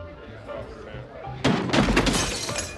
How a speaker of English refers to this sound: Perry is at an award ceremony, seated at a table. He falls off his chair.